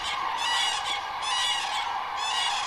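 Loud, harsh trumpeting calls from a pair of common cranes, overlapping in repeated bursts that ring out continuously across the whole stretch, with no talking.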